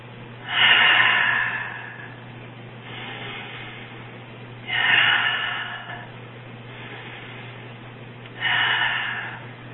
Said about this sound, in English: And then let's just go ahead and energize this by breathing in and out.